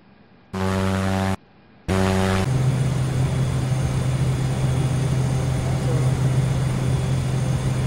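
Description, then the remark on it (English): A simulated propeller aircraft engine in Microsoft Flight Simulator X drones steadily and loudly with a low, constant hum and broad rushing noise, after two short buzzy bursts cut in and out at the start. “Microsoft Flight Simulator X.”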